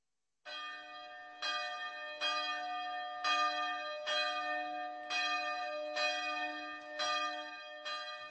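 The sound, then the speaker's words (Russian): A church bell rings alone, struck about nine times at a steady pace of roughly once per second, each rich, resonant toll overlapping the lingering hum of the last. “Тонов в колоколе много, и все они должны быть взаимно отлаженными.”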